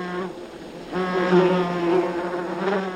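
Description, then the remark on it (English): Wasps buzz around a large nest in a tree in a dense, steady drone that swells louder after the first second and stays continuous, with no voices. “Oropendulas also favor trees that bear large nests of wasps, whose stinging attacks deter both potential nest predators and parasitic insects.”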